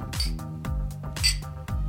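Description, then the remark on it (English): Glasses of a root beer-flavored drink clink together in a toast, two bright ringing taps about a second apart, fairly loud over a low, steady background hum. “All cheers, right. boys. Cheers.”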